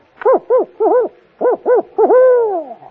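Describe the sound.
A person's voice imitates a contented owl, giving five short, bouncy hoots in a quick rhythm and then one longer, drawn-out hoot that slides down, clear with no talking.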